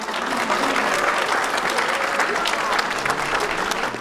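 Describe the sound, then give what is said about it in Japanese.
Families of iSpace employees in Tokyo, watching live video of the SpaceX rocket launch carrying iSpace's lunar lander, break into sustained applause and cheering: dense clapping mixed with excited voices, loud and steady for the whole four seconds. “都内でライブ映像を見守っていた iSpace 社員の家族などからは歓声が上がりました。”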